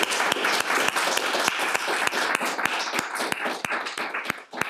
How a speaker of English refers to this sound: And we actually need to have another round of applause.